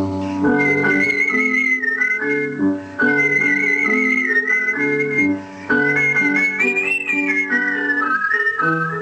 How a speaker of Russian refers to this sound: А занятие художественным свистом так и осталось хобби, увлечением, растянувшимся на 60 лет.